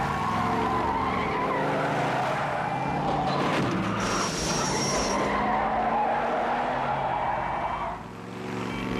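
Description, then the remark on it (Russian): Car tires screech in a long, loud skid lasting several seconds during a near crash as the car is about to run a red light, with a high squealing whine over a rumbling engine, then easing off near the end. No one speaks. “Мы вот-вот проскочим на красный.”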